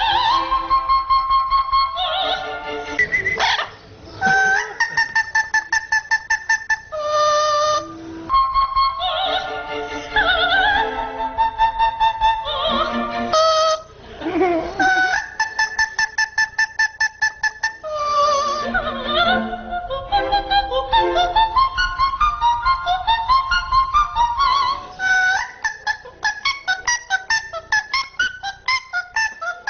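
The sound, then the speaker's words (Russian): An Amazon parrot named Menino sings an opera aria, edited together with a recording of soprano Diana Damrau, loud, with shrill held notes and quick pitch runs following one after another for about half a minute without pause. “Во фрагменте, который мы сейчас услышим, пение Менино смонтировано с записью выдающейся исполнительницы этой партии Дианы Домрау.”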